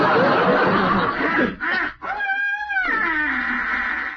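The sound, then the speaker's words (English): A boy's voice mimics honking wild geese, a nasal, wavering honk rising and falling over a couple of seconds, loud, amid a noisy, snickering background. “That was geese.”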